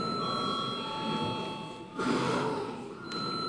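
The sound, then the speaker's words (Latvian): A steady electric voting bell rings continuously in a parliament before a vote, a sustained ringing tone that holds throughout, with a brief breathy rustle partway through. No one speaks. “Lūdzu zvanu.”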